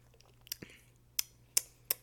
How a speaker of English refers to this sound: Okay. Squeeze me. Oh, shit. Okay, one more sip.